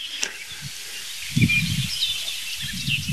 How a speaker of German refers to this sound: Es gab jetzt ein paar, ich würde mal sagen, Warnrufe kann man die noch nicht mal nennen. Ein paar Schimpfer von der Singdrossel.